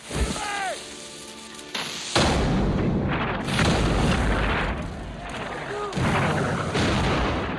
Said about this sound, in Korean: 한편 같은 날 밤 우세한 대포를 앞세운 프랑스군의 공격이 다시 이어지고 영국군은 전멸할 위기에 처한다.